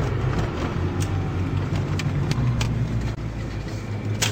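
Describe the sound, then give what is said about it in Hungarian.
A multi-cylinder car engine idles steadily during a long warm-up, a continuous low rumble with faint periodic ticks over it and no voices. “Hosszan melegítik, az biztos. Ez egy sok tengeres autó.”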